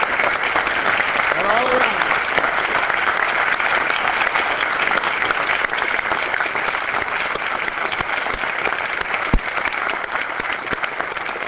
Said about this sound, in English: And then I would ask if the entire delegation from the Tabor Czech Days and Pier congregation would all rise at this time. Let's give them a hand. And I would ask that we give them a round of applause.